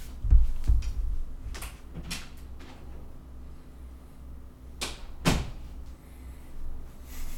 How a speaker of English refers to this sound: I'm in my office. But like, yeah. Let me go close the door.